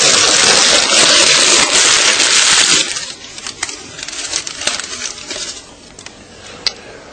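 A loud, steady roaring rush of flames for about three seconds gives way to quieter, irregular crackling and sharp pops as a piece of paper burns in a fireplace.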